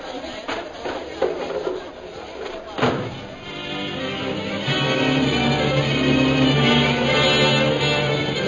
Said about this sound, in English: Knock the table over so he can't catch us.